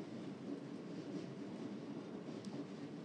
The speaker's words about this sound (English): I'm sitting in a probably 90% empty carriage on a stopping service from Waterloo round to Teddington, and from there back round to Waterloo again. I'll be getting off at Richmond. There's plenty of clunkety noise coming from outside.